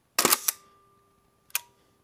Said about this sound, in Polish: No i tu już jak klapnie, to klapnie konkretnie. Super aparat.